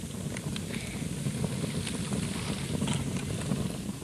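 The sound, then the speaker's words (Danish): A fire fed with cardboard burns in a hotel fireplace with a steady, low roaring rumble, broken by scattered faint crackles and pops. No one speaks. “Åh, det er en lyst, som det brænder her i pejsen.”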